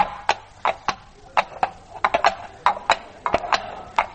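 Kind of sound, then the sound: animal, horse hooves clip-clopping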